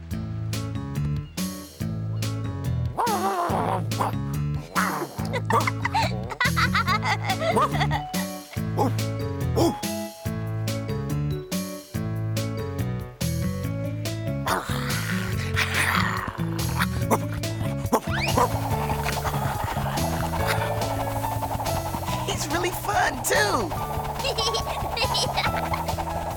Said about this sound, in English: You silly dog.